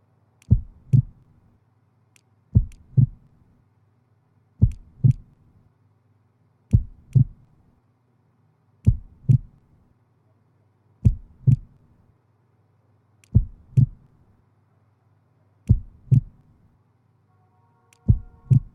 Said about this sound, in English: Relax, kid. Match your heartbeats and time your breathing to the patterns.